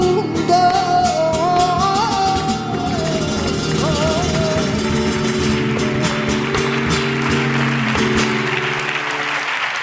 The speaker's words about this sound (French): Antonio Reyes de Chiclana, Antonio Reyes très applaudi sur cette scène du théâtre de Nîmes pour le festival Flamenco. C'était le 17 janvier dernier.